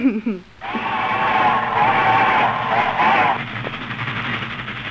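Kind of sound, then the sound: vehicle, fast-moving train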